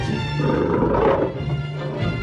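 A lion roars loudly and close, a deep rumbling growl that swells and fades over a couple of seconds, with a low steady hum underneath and no voices.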